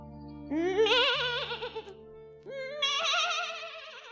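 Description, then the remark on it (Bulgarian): Two wavering, quavering bleats from a young goat, fairly loud, the second following after a short pause. No one speaks. “Ела, козленце! Не се страхувай! Приближи се!”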